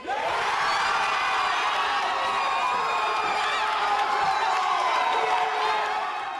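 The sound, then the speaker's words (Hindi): A large crowd of England football fans cheers and roars continuously, celebrating England reaching the FIFA World Cup quarter-final after twelve years by beating Colombia, a dense wall of shouting and whooping voices that stays loud and steady throughout. “बारह साल बाद इंग्लैंड ने फीफा वर्ल्ड कप फुटबॉल के क्वार्टर फाइनल में जगह बनाई और फैंस ने कुछ इसी अंदाज में खुशी जाहिर की।”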